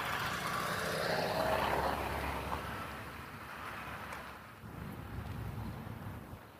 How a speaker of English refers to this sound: There's always cars here though, gosh.